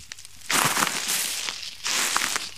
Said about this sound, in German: Und wie ihr hört an meinen Schritten, befinden wir uns in einem Waldlaub.